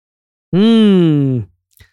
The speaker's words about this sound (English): Excuse me, little yawn there.